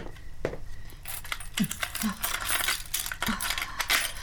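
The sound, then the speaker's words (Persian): Door keys jangle and clink repeatedly in a bright metallic rattle, fairly loud, with a few sharper knocks mixed in and faint voice-like sounds underneath. “کلید در کجاست؟ ای آقا لطفا کلیدو بدین.”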